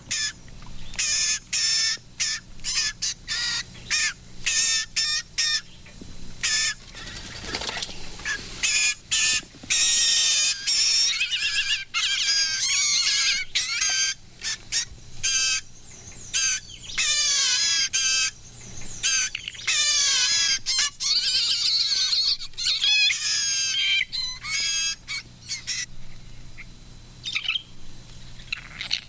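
Harsh, squawking calls of a blue jay at its nest in the forest, shrieking at people, ring out up close, repeated in rapid irregular bursts for the whole stretch, loud and bright with short gaps between cries and no voices.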